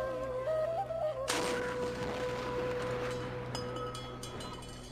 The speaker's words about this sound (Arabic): يلا يا عيال بنسير جدل مدفع وشلوا تمركم ومايكم عسب تفطرون من يذن. ابويا اخاف من صوت المدفع، عادي اسد دنيا؟